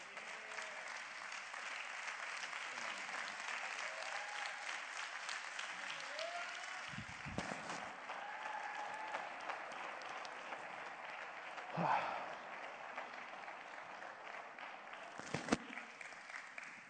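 Sustained applause from a large audience for a pastor being honored with a presentation on behalf of families, churches and a ministry in Pakistan, lasting about seventeen seconds, a steady dense roar of clapping with a few louder bursts and faint voices mixed in.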